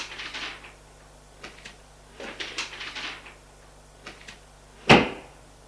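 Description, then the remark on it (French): Soft paper rustling and small handling noises as paper is put back into a writing desk, ending in one sharp wooden clunk as a desk flap or drawer shuts. No one speaks. “Remit le papier dans le secrétaire.”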